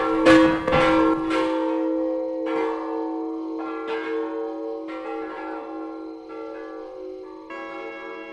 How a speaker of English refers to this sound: Chimes are up in here. They're oxygen acetylene bottles. I'll ring them for you.